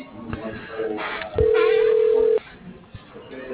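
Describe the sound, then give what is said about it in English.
A single steady, loud telephone line tone, about a second long, sounds over a muffled, narrow-band phone connection while an automated company directory transfers a call to extension 243, with faint background murmur before and after. “Transferring to. Lonnie. One moment,”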